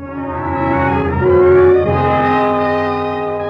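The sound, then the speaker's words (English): A bus engine drones loudly and steadily on a bus ride to Stanley Springs, its deep harmonic hum rising slightly in pitch midway as the vehicle pulls along, then settling back to an even rumble. “first by air, then by train, then by bus to Stanley Springs.”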